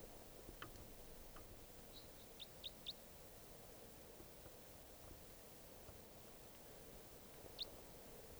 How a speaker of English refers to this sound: crossbill here, a wild type 4.